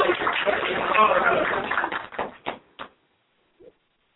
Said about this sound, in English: Let's bring him on. Come on with a hearty round of applause.